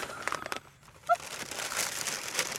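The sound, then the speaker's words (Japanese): Continuous crinkling and rustling of the paper packaging of a gift package being torn open, with irregular crackly bursts and a brief sharper crunch partway through. “ガサガサガサ。”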